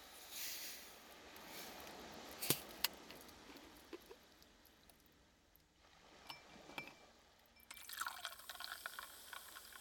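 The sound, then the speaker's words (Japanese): Carbonated water is poured into a glass to make a ginger ale with homemade ginger syrup, with a couple of sharp clinks early on and a bright, crackling fizz building toward the end. No one speaks. “適量を入れましたら、こちらに炭酸水を注いでいきます。”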